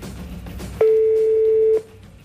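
A single steady telephone ringback tone sounds for about a second as a call is placed to a red mobile phone. The tone is clear, set against a faint low background murmur that continues before and after.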